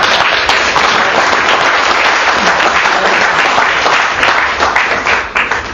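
Sustained applause from an audience, a dense, steady wash of many hands clapping at full volume for several seconds before starting to thin out at the end.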